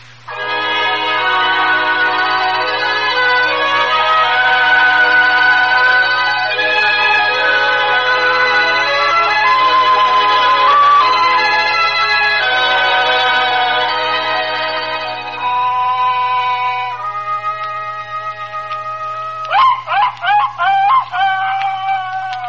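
A hound, Bugle Ann, bays in the night while chasing a fox, in long, drawn-out, wavering howls that blend into a continuous cry, then breaks into shorter, rising yelps near the end, loud over a low steady hum.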